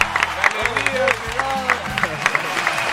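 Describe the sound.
A crowd applauds steadily after a cumbia performance, with dense, crackling clapping, while voices whoop and shout over it in bursts of cheering throughout.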